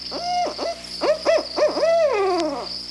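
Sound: barred owl call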